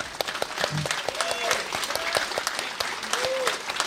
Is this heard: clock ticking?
no